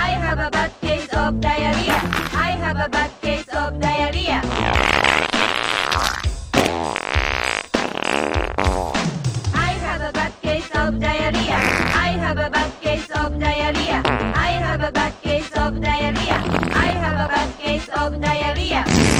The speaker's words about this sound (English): Honey, did you fart?